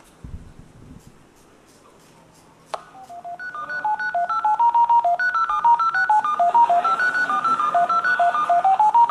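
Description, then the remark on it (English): A rapid, steady stream of telephone touch-tone dialing beeps at shifting pitches, loud, following a sharp click after a quiet stretch with faint low murmuring, as a phone call is placed to a chosen number by probing only the central office. “Basically, what you've seen is that we've successfully gotten it to make a phone call to a number that we chose by probing only the central office”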